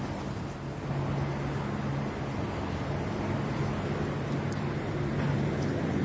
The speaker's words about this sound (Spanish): Ese minuto de silencio respetuosamente guardado por los 80.000 seguidores que llenan el estadio. Seriedad, rezos, solidaridad